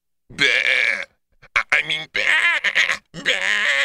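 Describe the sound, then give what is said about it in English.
A few loud, wavering sheep-like bleats in quick succession, with a warbling, nasal quality that sounds like a human voice imitating a sheep. “That sheep sounds funny,”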